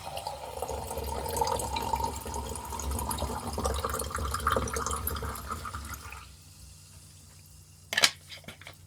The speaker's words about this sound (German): Ich habe ein paar Sprudelwasser, das werde ich mir einschenken.